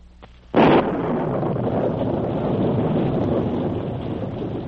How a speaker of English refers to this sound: Darkness had fallen when Sergeant Preston returned to his cabin that evening. A violent storm was raging.